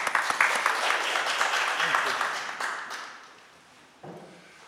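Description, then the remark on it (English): A church audience applauds a woman standing in for the day, with dense, steady clapping that tapers off after about three seconds, leaving a brief lull before a single voice begins speaking. “Give her a lift. Give her a clap.”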